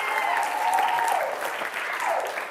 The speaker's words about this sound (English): a round of applause.